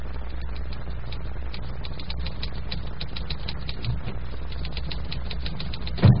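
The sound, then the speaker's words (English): Rapid, steady clacking of a manual typewriter being pounded in the doctor's office scene of the Dr. Christian radio comedy Mad Interlude, its keys striking in a continuous irregular rhythm over a low background hum, moderately loud with no voices. “The scene is again the doctor's office, and Judy is again pounding the typewriter.”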